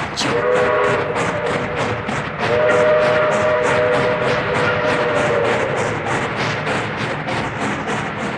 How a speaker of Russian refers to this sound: Внимание, наш поезд отправляется. Всем счастливого пути! Поехали!